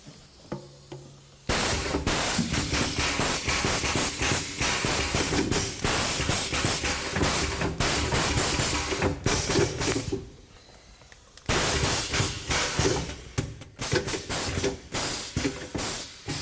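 Loud, harsh mechanical clatter and hissing from a pneumatic suspension play detector jerking a vehicle's wheels to check the suspension for play. It runs in two long bursts with a short lull between, full of rapid knocks and jolts.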